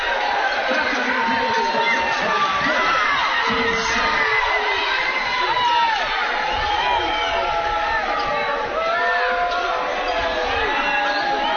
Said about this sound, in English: A lot of booing over here on the Franklin side